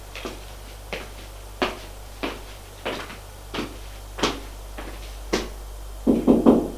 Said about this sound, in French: Elle va frapper à la porte de sa chambre.